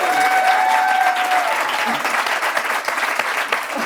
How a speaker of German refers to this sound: Vielen Dank dafür. Ihr dürft klatschen.